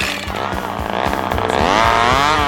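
A chainsaw roars steadily as a man wearing safety glasses cuts into a tree trunk, showering him with sawdust, its engine whine rising and bogging slightly under load, loud and continuous throughout.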